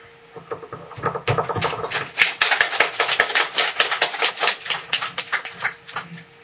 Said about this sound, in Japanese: じゃあ救い主をおめでたいで拍手しましょう。